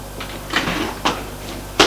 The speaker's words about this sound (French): Une porte qui claque.